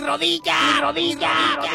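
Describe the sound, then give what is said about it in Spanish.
A loud, drawn-out shout rings out in two strong bursts with a brief dip between, an echo in the mountains repeating a child's cry about his knee after he fell, probably a person imitating the echo. “Y un sonido potente repitió su mismo grito. Así se escuchaba.”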